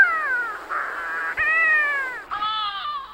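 Shearwater calls: a run of loud, drawn-out wailing cries with a nasal, harmonic tone, rising and sagging in pitch across three long phrases, with no voices present.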